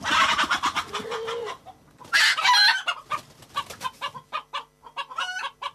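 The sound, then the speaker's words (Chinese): A barred hen clucks in a rapid string of short, bright calls, breaking into a louder squawking burst midway before settling back into quick, uneven clucks, as a woman holds it between her knees and feeds it corn kernels by hand. No one speaks. “女人正在对付的是一只芦花母鸡”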